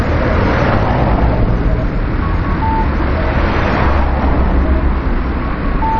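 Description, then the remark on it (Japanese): Steady, dense street traffic near Soga Station at a pedestrian crossing, a continuous low rumble of passing cars and buses with occasional faint tonal beeps from the crossing signal, busy and unbroken throughout. “でもさ、こうやって多分録音してるとさ、とても都会にいるような感じがするんだけどさ、単に賑やかなところにいるだけなんだよ。”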